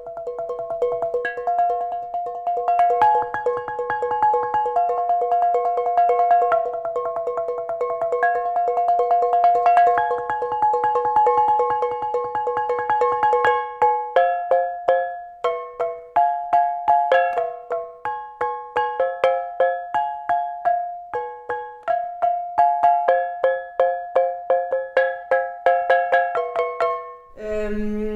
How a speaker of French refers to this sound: Côté que je suis en train de développer en ce moment, c'est que je récupère plein de casseroles pour me faire un clavier avec plusieurs notes. Donc là, j'en suis à 6. Mon objectif, c'est d'en récupérer un maximum pour essayer d'avoir toute une gamme.